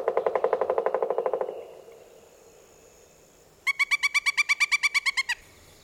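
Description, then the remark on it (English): A pileated woodpecker drums in a fast, fading roll of knocks, then after a short pause gives its loud, ringing call, a quick even series of about a dozen piercing notes, clear. “Other sounds included the call and the drum of a pileated woodpecker.”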